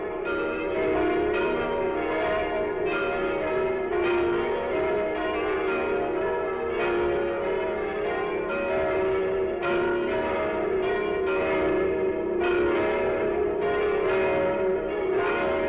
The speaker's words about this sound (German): Weit und beschwerlich ist der Weg gewesen, den das Geläute von Bethlehem zu uns genommen hat. Länder und Meere hat es überqueren müssen von dem Ort, an dem der Heiland geboren wurde.